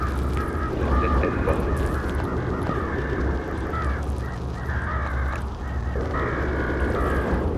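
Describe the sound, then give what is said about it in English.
A flock of hungry crows caws loudly and almost continuously while pecking and tearing at shreds of flesh, their harsh calls overlapping over a steady, rumbling background, with no voices. “Dark and silent, they're the Martians, the hungry birds pecking and tearing brown shreds of flesh.”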